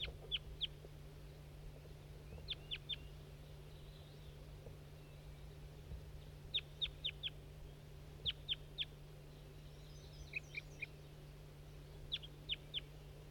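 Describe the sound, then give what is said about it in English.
A wild bird calls in quick bursts of three or four sharp, high notes, repeating every couple of seconds over a steady low hum. “That's that wild bird that was tubing.”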